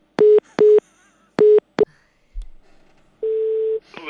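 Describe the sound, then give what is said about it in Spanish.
A phone busy tone after a call dropped because of poor phone coverage: four short, loud beeps in an uneven rhythm, a brief low thump, then one longer steady tone, with no voices. “Oye, ¿no me habrás colgado? No, es que se me corta el teléfono.”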